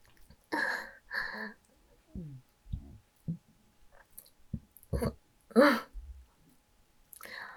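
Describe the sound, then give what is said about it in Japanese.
A loud, deep burp rumbles out, surrounded by several short, wet clicking and squelching sounds and soft breathy noises, with no clear speech. “すごい大きいゲップが出てきちゃった。”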